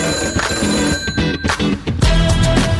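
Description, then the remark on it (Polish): A telephone rings loudly and insistently for an incoming call, its repeated electronic trills pulsing clear for a few seconds with no voices. “Do zakończenia dzisiejszego wydania giełdy 2,5 minuty i kolejny telefon z kolejnym ogłoszeniem.”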